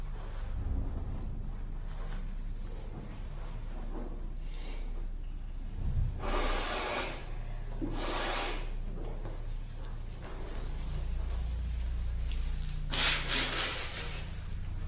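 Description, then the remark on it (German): Several forceful, breathy nose blows come in short noisy bursts, two close together and a third after a pause, over a low rumbling background with no one talking. “Entschuldigung, ich muss mir mal ganz kurz die Nase putzen.”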